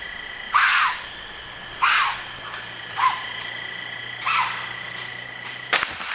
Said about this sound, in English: I found it in an amateur video, so I'll just let it rock here. A deer screaming.